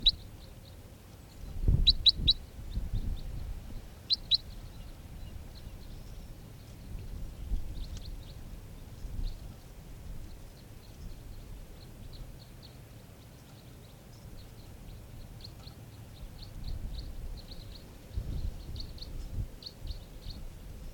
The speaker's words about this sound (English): Wild birds are coming in right now.